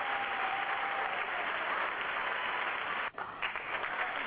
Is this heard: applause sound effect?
yes